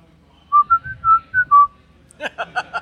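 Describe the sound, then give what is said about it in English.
A person whistles a short, bright tune of about five clear notes, fairly loud, followed by a quick burst of talking or laughter. “All right, your question is, can you whistle?”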